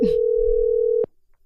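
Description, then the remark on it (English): A steady electronic ringback tone from an outgoing phone call sounds loudly for about a second, then cuts off abruptly with a faint click, leaving near silence. No one speaks. “Hopefully he answers the damn phone because he was on the train.”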